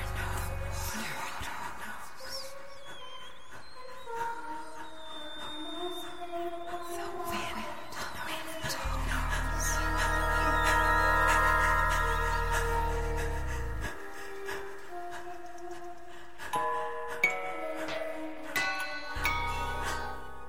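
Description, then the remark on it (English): Instrumental music from the score of Grace and Delia Are Gone, a Flyaway Productions dance performance about violence against women, at the Fort Mason Center's Firehouse Pavilion in San Francisco: sustained tones and bell-like chimes ring over a deep low drone that swells in the middle, then thins out near the end. No voices. “And that is music from Grace and Delia Are Gone, a new dance performance that focuses on violence against women from Flyaway Productions.”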